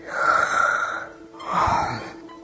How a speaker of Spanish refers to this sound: Se bosteza. Se vuelve a bostezar.